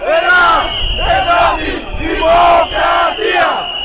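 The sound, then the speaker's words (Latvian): A loud crowd of about 10,000 protesters outside the parliament building on a Monday evening chants the slogans "Greece, Europe, democracy" in rhythmic bursts, about four repeated phrases, while whistles are blown, a shrill whistle sounding steadily throughout. “Akcijas dalībnieki skaļi svilpušas vilpes un klieguši saukļus – Grieķija, Eiropa, demokrātija.”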